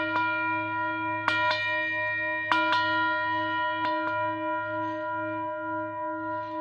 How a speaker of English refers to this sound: Now, there are two ways that you can ring a bell. The first way is that when that rope hangs down, you can pull and let go. And that makes a sound that is called pealing the bells.